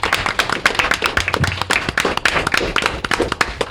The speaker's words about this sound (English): I want to, can we get a round of applause for these folks? Now, one round of applause, a ginormous round of applause for you folks for coming out on a fucking Sunday.